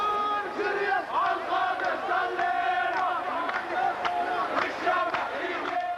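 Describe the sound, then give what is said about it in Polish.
A large crowd of about 150 to 300 young Orthodox Arab men, arriving around noon before the descent of the fire, sings and shouts together, carrying one another on their shoulders and entering with small drums, their voices chanting in a loud, continuous, rhythmic roar with overlapping cries and occasional sharp accents throughout. “Są bardzo spontaniczni, radośni. Jeden drugiego niesie na baranach. Zaczynają śpiewać, krzyczeć, wchodzą z bębenkami.”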